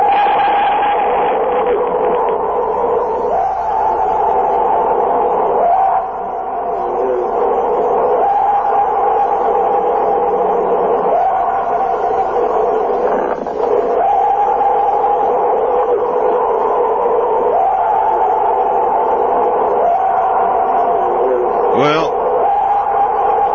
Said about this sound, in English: So here comes the genuine Yeti yell, and nobody would ever want to hear this in the dead, dark night in the middle of a forest. Here it is.